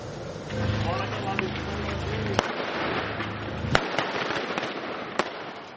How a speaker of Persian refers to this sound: تبادل آتش میان نیروهای عراقی و شبه نظامیان گروه حکومت اسلامی موسوم به داعش که در یکی از خانه‌ها در غرب موصل پنهان شده اند. تبادل آتش در داخل خانه.